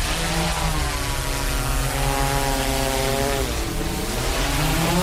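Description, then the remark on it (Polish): A drone's propellers whine steadily and loudly as it comes down to land, kicking up wind and dust, a dense buzzing drone with stacked harmonic tones that shift slightly in pitch, with a rushing wind-like noise underneath. “Trochę hałasu robi, jak ląduje. Troszeczkę hałasu, troszeczkę wiatru, kurzu.”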